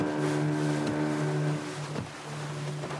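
A small motorboat, no bigger than a lake fishing boat, is at sea; it is used to carry migrants across open sea from Anjouan to Mayotte. Its engine drones steadily, a low humming tone over a wash of wind and water noise, with a brief knock or splash partway through and no voices.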